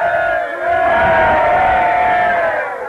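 A crowd of voices gives three cheers for General Washington, roaring a loud, drawn-out hurrah together, the massed shout swelling after a brief dip and holding steady before tapering off.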